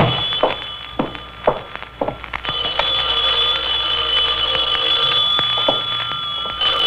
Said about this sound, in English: Knew that phone would be ringing.